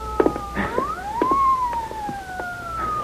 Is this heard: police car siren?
yes